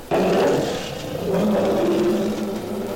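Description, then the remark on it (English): Leon the Lion, a cartoon lion, roars loudly, bursting in abruptly and holding a deep, rumbling growl for about three seconds before easing off slightly at the end. “I'm Leon the Lion, king of all the animals. Listen to me roar.”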